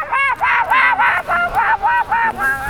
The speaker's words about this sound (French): Les oies, elles lui ont dit non, non, t'es sur notre territoire là. Elles ont parlé.